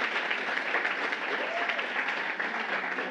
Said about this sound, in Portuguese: Podem vir para cá. Palmas para ela, gente.